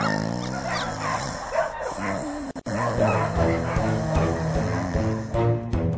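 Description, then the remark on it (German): A litter of newborn puppies, eyes not yet open, yips and whimpers continuously, high thin cries overlapping in a busy, restless chorus with a brief dropout midway. “Oh, sind die nicht niedlich? Lass uns so ein kleines Hundebaby nehmen.”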